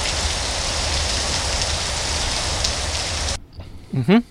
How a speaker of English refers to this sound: Sorry. It's raining outside. It's raining.